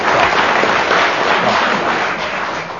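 A crowd applauds steadily, a dense wash of many hands clapping at once, loud and sustained throughout with no voices rising above it.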